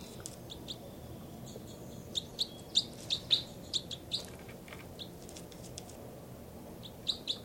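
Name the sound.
bird calls and chirps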